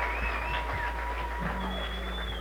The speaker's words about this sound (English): Let's give them a great round of applause, will you?